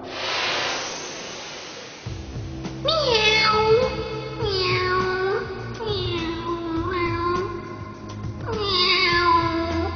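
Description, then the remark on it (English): A black cat meows several times in a row, with long, drawn-out, wavering cries that sound clear over a low background hum, after a brief burst of noise at the start. “A black cat walking past you.”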